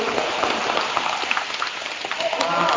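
Steady audience applause, a dense crackle of many hands clapping at even loudness throughout, with no clear rhythm and no voices standing out.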